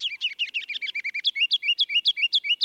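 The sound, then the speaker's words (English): A ruby-crowned kinglet, a bird about 4 inches long weighing about 1/4 ounce, sings a rapid, rolling series of bright high chirps, about sixteen quick repeated notes in a steady rhythm, clear with no other sounds. “That mile of music comes from a bird 4 inches long and weighing about 1/4 ounce.”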